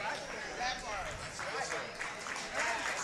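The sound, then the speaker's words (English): Scattered, thinning hand claps from an audience, steady but sparse, mixed with a low murmur of voices. “Oh, the hand claps is thinning.”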